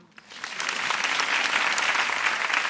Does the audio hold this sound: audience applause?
yes